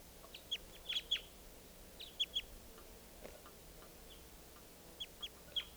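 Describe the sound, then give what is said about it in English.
A wild bird clapping its bill: sharp, clipped clicks arriving in quick clusters of two or three, separated by short pauses, over a faint steady hiss. “Flapping his bill now.”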